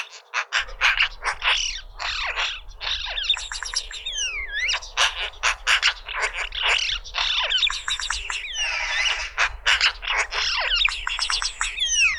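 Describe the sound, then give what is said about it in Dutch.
A magpie's song rambles on without pause: a busy medley of chirps, rising and falling whistles and scratchy notes, over a low steady rumble of background noise, with no talking. “Eindelijk de zang van een vogel die behoort tot de zangvogels waarvan iedereen denkt, zijn kraaiachtige zangvogels?”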